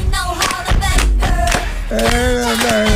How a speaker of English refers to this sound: Clap your hand. Come on.